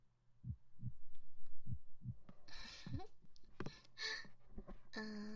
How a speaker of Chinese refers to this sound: 听到了吗？这个就是老师的心跳，感觉怎么样？是不是很舒缓，很有规律呢？